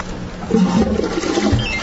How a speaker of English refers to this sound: Toilet. Toilet flushing.